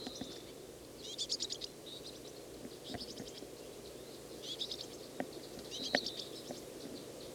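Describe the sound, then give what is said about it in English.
A juvenile bird that has just been fed by an adult keeps begging, giving repeated high, thin begging chirps in short clustered bursts over a steady low background hum, with brief pauses between volleys. Its wing flutter isn't distinctly audible. “Bird just got fed. Fluttering its wings, begging some more.”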